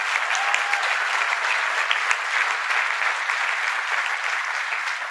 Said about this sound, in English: and I'd like to thank everybody in Public Works, KCATA, Fire Department, the Police Department, every worker in Kansas City. Let's give them a round of applause as well.